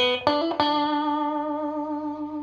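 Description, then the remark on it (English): Two distorted electric guitar single notes are picked in quick succession through an Orange Squeezer compressor pedal, then sustain evenly with a thick, compressed ring that fades only slightly. Fairly loud, with no voices. “Now, with the Orange Squeezer, you will get the same amount of distortion when playing single notes.”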